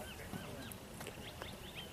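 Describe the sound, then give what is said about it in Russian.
Several faint, high bird chirps and short whistles scattered across a quiet, peaceful reed-lined fishing spot, over a steady low background hum. “Слышите, птички поют.”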